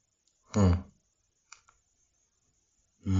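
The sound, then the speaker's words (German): Two quick, light computer mouse clicks in close succession, set between short bursts of a person's voice before and after. “Ich weiß nicht, was ich hier noch klicken soll.”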